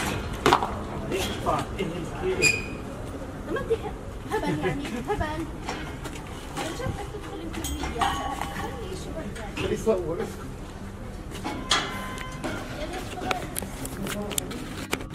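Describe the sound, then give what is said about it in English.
Irregular metallic clanks and knocks ring out repeatedly from metal gates at a military wall checkpoint between Israel and the West Bank. People wait in line to pass through. The clanks sound over a steady crowd murmur, with shuffling footsteps and voices. “It's concrete, narrow, it's gray, and there are metal gates every few meters.”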